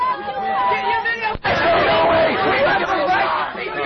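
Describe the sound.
A crowd shouting "stay strong" together at a police line as a man is dragged away, a dense, loud wall of overlapping raised voices that carries on steadily, broken only by a split-second drop partway through.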